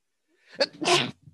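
sneeze

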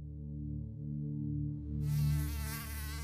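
mosquitoes buzzing

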